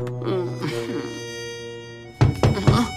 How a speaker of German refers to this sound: Nanu, wer klopft denn da?